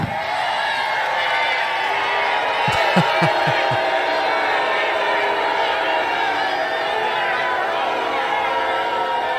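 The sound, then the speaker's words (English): A large MAGA crowd roars with sustained booing and heckling at Lindsey Graham as he walks off stage, a dense wall of voices throughout, with a few low thumps cutting in briefly partway through. “A visibly frustrated Lindsey Graham, brutally booed by a supposedly friendly MAGA crowd, and walks off stage.”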